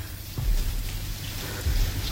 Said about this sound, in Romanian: Peste mata asta de ploaie de vină te apucă nebunia.